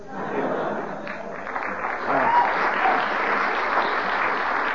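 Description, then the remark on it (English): Steady audience applause, a dense wash of clapping that holds at a fairly even loudness throughout, swelling slightly partway through, with a few chuckles mixed in. “But due to the audience's friendly applause in the middle there, you overran the 15 seconds.”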